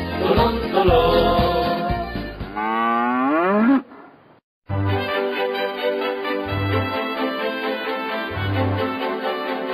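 A cow moos loudly in long, drawn-out calls with wavering pitch, broken by a brief silence before a sustained low, lowing sound resumes, with no one talking.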